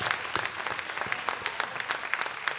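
A crowd applauds steadily, many hands clapping in a dense, continuous patter with scattered sharper claps, moderately loud and close throughout.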